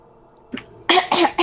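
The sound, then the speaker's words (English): A short throat clearing: a faint low rasp, then two loud, harsh bursts in quick succession, with no talking. “Gotta clear my throat.”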